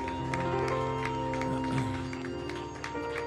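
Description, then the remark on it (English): An audience claps and cheers together, giving Jesus a big shout and a clap offering of praise, a steady wash of hand claps and raised voices over a sustained musical drone, loud and continuous throughout. “Just give Jesus a big shout and a clap offering of praise.”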